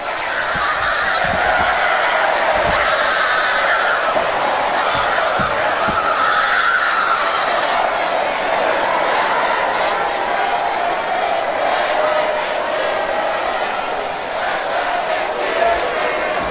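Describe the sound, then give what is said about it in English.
A Monday Night Raw wrestling crowd cheers loudly and without pause as it says goodbye to Vicky, who sits on the ground; a dense, steady roar of many voices with scattered shouts rising through it and no clear speech. “As the crowd, you know, says goodbye to her, as they, like, as the wrestling crowd could.”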